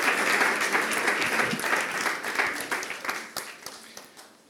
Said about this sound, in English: Can I have a big round of applause for my little helpers? Thank you.